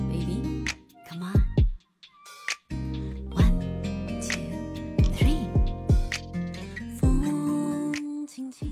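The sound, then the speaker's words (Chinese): A gentle, sweet pop song plays clearly, with a singing voice gliding over soft, sustained accompaniment and short pauses between phrases. “怎么会有这么温柔的歌啊？”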